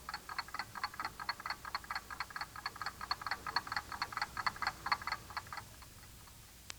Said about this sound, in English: You knew that was a clock ticking, didn't you? You should have circled the clock.